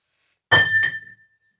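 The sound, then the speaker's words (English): A coin flipped to decide heads or tails lands with two quick metallic clinks, the second a short bounce, followed by a thin high ring that fades out. No voices. “The coin says you're staying.”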